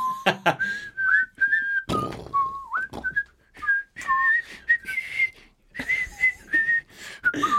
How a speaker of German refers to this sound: Pfiff wunderschöne Melodien.